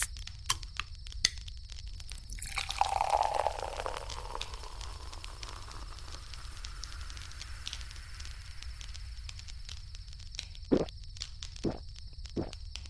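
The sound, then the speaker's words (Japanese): Beer is poured into a paper cup outdoors in a gurgling, fizzy burst that settles into a soft hiss of foam. A steady crackle continues underneath, with a few sharp clicks and taps. “待って、紙コップについであげるね。”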